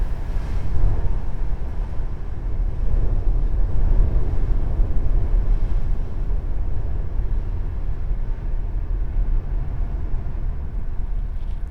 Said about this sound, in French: Ou ici, le vent enregistré à l'intérieur d'un gros pierrier qui va vraiment étouffer le son du vent qui est vraiment terrible dehors, enregistré à travers le son de l'architecture.